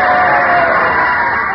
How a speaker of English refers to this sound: Hooray! Ah, listen to those cheers, folks. There must be 18 people here today.